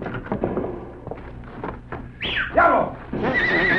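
A horse lets out a loud, shrill whinny that rises and then trails off, preceded by a few dull thumps and clatter, with no talking.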